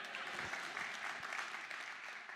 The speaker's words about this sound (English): I am newlywed. I was married 3 weeks ago. This is where you cheer for me. Yes.